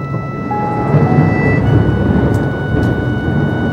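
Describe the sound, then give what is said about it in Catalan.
A loud, sustained roll of thunder rumbles through a rainstorm after a flash of lightning between clouds, deep and dense, swelling slightly after the first second and staying heavy throughout, with a rain-like hiss underneath and no voices. “Aviat se sent un tro tan fort que sembla que s'hagi esquerdat el cel.”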